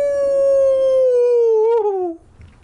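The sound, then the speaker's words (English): A single long, mournful creature howl rings out loud from behind the trees in the woods, holding a steady tone for about two seconds before its pitch sags downward, wavers, and breaks off into quiet. “I opened my mouth to reply, but another mournful howl interrupted.”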